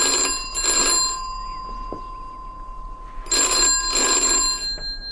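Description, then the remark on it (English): A telephone bell rings in two bursts a few seconds apart, each a loud, rattling double trill, with a quiet pause between them and no one speaking; it is an 8:30 call put through by the exchange. “It may well be for me. My office. They said they might phone me here.”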